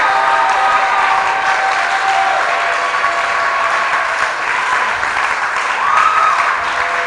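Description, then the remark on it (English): An audience applauds loudly and steadily for several seconds, a dense wash of clapping mixed with shouts and a few high, drawn-out cries rising above the noise. “May your miracle bring more shouts of rejoicing by the power of God.”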